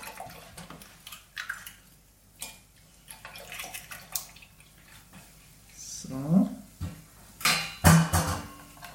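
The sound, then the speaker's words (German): Bread sizzles in a hot pan with a steady crackling hiss, broken by clinks and scrapes of a utensil against the pan, louder near the end, with faint voices in the background. “Sieht aber schon mal sehr gut aus hier in der Pfanne.”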